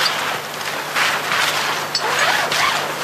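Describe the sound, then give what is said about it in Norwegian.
A heavy, thick zipper is dragged in long, rasping pulls, its gritty buzz swelling and easing in a few strokes. Fairly loud, with no voices. “Jeg føler at i disse hoppdraktene, der har de en stor, solid, tjukk glidelås. Ja, vi hører det.”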